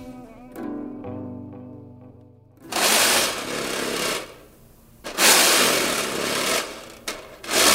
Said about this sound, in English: This recording is me alone in the studio scraping the bottom of a snare drum. I heard that sound first in my head, and I was like, I need this like weird kind of scrape without thinking about snare or thinking about whatever it was that could make it